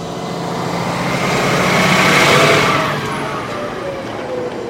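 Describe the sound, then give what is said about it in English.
A bus engine rumbles steadily, swelling louder for a moment as it revs or passes, then settling back to a constant drone, on a bus ride down Maryhill Loop near Goldendale, Washington. No one speaks. “Shoulders scrunched, she trudges onto the bus that will take her on a slower ride to the bottom of Maryhill Loop.”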